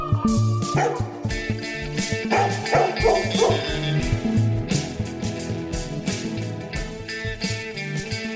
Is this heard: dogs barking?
yes